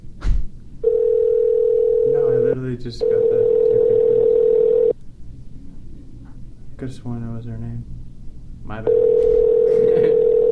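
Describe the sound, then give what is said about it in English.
A phone's ringback tone purrs in long, steady bursts while placing a call to a man, three rings separated by pauses, loud as if through a receiver, with people briefly talking in the gaps. “We'll try calling him one more time about the movie.”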